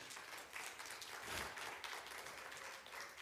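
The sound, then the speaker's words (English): A modest round of audience applause as a person is called up to help the speaker: many hands clapping in a steady, dense patter for about three seconds, fairly light and even throughout, with no voices over it. “That wasn't really a big round of applause, but I'll accept it for you,”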